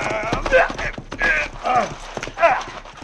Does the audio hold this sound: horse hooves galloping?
yes